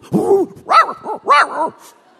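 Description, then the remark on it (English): A human voice mimics a German shepherd's muffled yips as it has nightmares in its sleep, three or four short, pitched-up bursts in quick succession, clear with no other talking. “I let him sleep on the floor of my room for a while, but this crazy dog had nightmares.”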